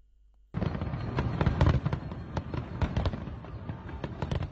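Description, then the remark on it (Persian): New Year's Eve fireworks in France go off in a dense, continuous barrage after a brief quiet start, with many sharp cracks and pops overlapping a rumbling low boom, with no voices. “فرانسه امسال نیز شب سن سیلوستر را با آتش بازی شروع کرد.”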